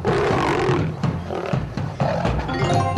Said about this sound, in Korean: 최고의 라이벌 호랑이와 사자. 드디어 붙었다.